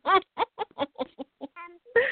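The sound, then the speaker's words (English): A run of quick, choppy chicken clucks, about eight in a row at a steady pace, fairly loud, ending in a longer squawking call. “They're all her chickens.”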